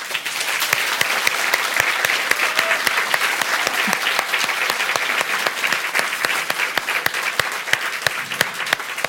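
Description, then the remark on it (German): An audience at the Arboretum in Drez applauds steadily, a dense wash of many hands clapping with sharp individual claps popping out, sustained at an even, fairly loud level throughout with no talking. “Wir sind immer noch im Arboretum in Drez und wir kriegen bestimmt auch für diese Folge einen tollen Applaus vom Publikum.”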